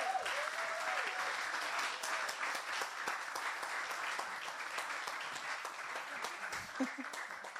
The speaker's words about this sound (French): Vous pouvez continuer à les applaudir.